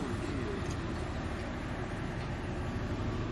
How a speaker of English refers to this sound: Bloody boat passing here. That's a big one, eh?